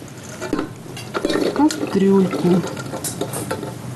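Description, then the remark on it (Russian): Drained beans are tipped into a metal pot, a few seconds of scattered rattling and clatter, with a low voice sounding briefly underneath. “И помещаем нашу замечательную фасолечку в кастрюлю.”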